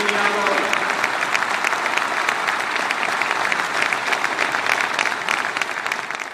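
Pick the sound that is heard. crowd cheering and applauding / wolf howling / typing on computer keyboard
crowd cheering and applauding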